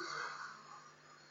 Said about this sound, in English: Oh, man, I tell you, I've had blocked sinuses all week, and I'm so glad I can smell it. I can sniff through my nose. I can almost imagine that bready smell as well.